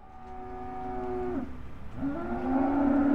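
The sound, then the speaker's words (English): Cattle moo in two long, drawn-out calls, one fading and a second rising louder, over a steady background murmur of a busy stockyard pen at Overland Stockyard in Hanford, California, about 40 minutes south of Fresno, as a cattle auction is set to begin. “A cattle auction is set to begin at Overland Stockyard in Hanford, about 40 minutes south of Fresno.”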